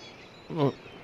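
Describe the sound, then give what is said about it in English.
A single short seagull call from a seagull perched on a person's nose, outdoors in freezing cold by the sea with waves advancing, a brief nasal squawk rising and falling against a quiet, faintly hissing background. “Wow, there's a seagull on my nose.”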